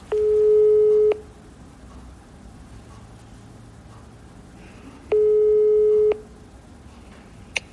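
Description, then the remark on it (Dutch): A telephone ringing tone while calling a goldsmith: two steady, mid-pitched one-second beeps spaced about four seconds apart, with a low background rumble in between and no talking. “Kijken of hij opneemt. Ik ga hem even bellen.”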